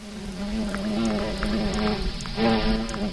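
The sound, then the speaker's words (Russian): A bumblebee buzzes steadily as it circles over clover flowers in bad weather, a low droning hum that swells slightly louder toward the end, with no voices. “Это родственник осы и пчелы шмель.”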